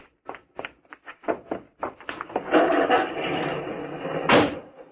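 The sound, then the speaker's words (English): A quick series of clicks and thuds, like car doors being opened and shut as people jump into a car, followed by a steady, louder rumbling noise that swells near the end. “You open the garage door, then jump into the car.”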